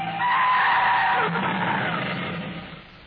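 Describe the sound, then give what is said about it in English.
Car tires skid in one long, harsh screech lasting a few seconds, loud at first, then dropping in pitch and fading toward the end, as another car cuts in front. “Look out, driver. A car just cut in front of us.”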